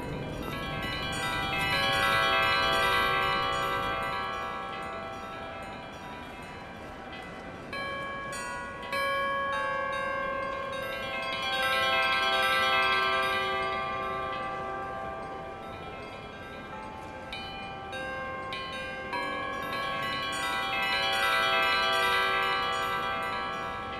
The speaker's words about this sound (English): The bells are playing. I can hear the Federation bells. Oh, yes, you can. Let's listen for a minute.